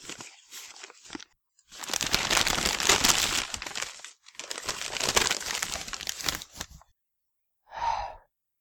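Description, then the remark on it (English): Loud paper rustling and crinkling as a brown paper parcel containing a pair of beige trousers is torn open and unwrapped in two long stretches, then a brief breathy gasp at the end. “Can't be the money in brown paper, can it?”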